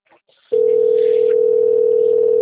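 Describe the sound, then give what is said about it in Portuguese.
A steady, continuous telephone dial tone starts abruptly after a brief quiet moment and holds loud and unbroken, played through a phone's speaker. “Ó, vou botar o telefone falando aqui dentro.”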